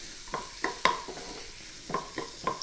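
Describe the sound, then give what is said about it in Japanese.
A utensil stirs and scrapes around a pot in quick, uneven strokes, mixing in cake flour sprinkled over the whole pot with the heat turned off, with light metallic clinks against the side and no one talking. “一度火を止めて薄力粉を全体、鍋全体に広がるように振り入れていってください。そしたらすぐ全体混ぜていきますね。”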